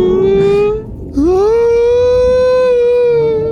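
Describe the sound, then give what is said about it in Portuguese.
Loud whale song: a sustained, harmonic moaning call that briefly drops out, then sweeps upward into a second long, steady tone, heard on its own with no talking. “Baleia é foda, o canto da baleia é zica.”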